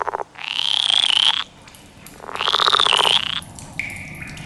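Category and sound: animal, frogs croaking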